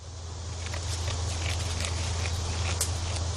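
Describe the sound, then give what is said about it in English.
Goats clearing vegetation as a landscaping crew in Laurel Grove North Cemetery on the west side of Savannah: a soft, irregular crunching and rustling of chewing against a steady low hum and quiet ambient background with no talking. “It's pretty quiet in Laurel Grove North Cemetery on the west side of the city. Just some goats chewing away.”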